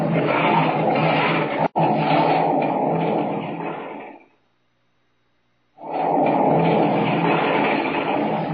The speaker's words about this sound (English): Down from the top of the mountain hurtles the mass of rock and earth.